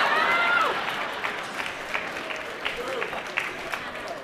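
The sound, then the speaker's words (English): A crowd applauds steadily at a mention of serving on President Bush's first President's Advisory Council for Financial Literacy, a dense wash of many hands clapping that stays fairly loud throughout and tapers slightly toward the end, with faint voices mixed in. “And for those of you who are not clapping, I also served under Obama, just so you know.”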